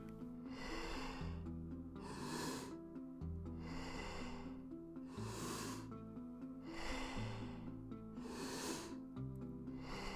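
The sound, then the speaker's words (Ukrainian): Loud, deep breaths repeat steadily, about every second and a half, alternating forceful inhales and exhales over a sustained low musical drone, in a guided breathing exercise of smooth, wave-like full breaths in through the belly into the chest, then out. No one speaks. “Вдих через живіт, в груди і видих.”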